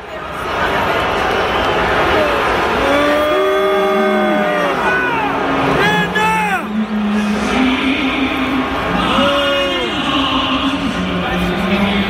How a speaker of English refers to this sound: But in the stands were people responding to the president's perspective on this. Certainly, here's sound from the New England Patriots fans. This was yesterday, booing players who knelt during the national anthem.